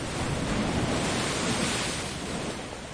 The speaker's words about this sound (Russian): Тяжело бьется волна о гранит набережной у памятника затопленным кораблям.